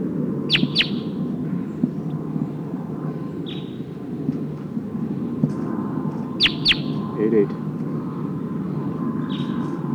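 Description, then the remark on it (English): A wild bird calls from the trees with sharp, high chirps in short bursts, repeating a few times over a steady low rumble of background noise. “Oh, sounds like one of the Sikansis birds is here in the trees.”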